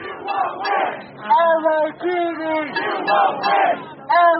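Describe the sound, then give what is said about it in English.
A protest crowd in Echo Park, Los Angeles, shouts and yells at police ordered to clear a homeless camp, in loud, overlapping voices, the chanting rising and falling in repeated waves with no pause. “Over the course of a day and a half, protests picked up steam. Much of it directed at police, who had orders to clear the park and then the streets.”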